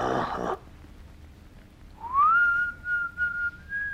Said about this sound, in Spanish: Y no sé, estás ahí silbando, con la mirada como perdida, como recordando algo.